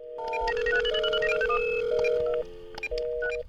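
An electronic mobile phone ringtone or dialing effect: a steady tone beneath a quick melody of beeping pitches, loud, with a brief pause before the tones resume. No voices.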